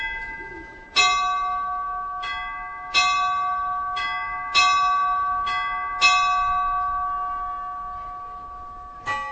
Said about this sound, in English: The city's orlai, or astronomical clock, chimes on the hour while mechanical, proletarian figures shuffle past the clock face.